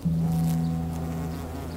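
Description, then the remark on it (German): A steady drone of many honeybees buzzing together at the hive entrance as bees arrive laden with pollen, a dense continuous hum with one bee whining a bit louder near the start, no voices. “Wenn ich mich an die Flugfront bei den Bienen setze, also da vergesse ich den Rest der Welt.”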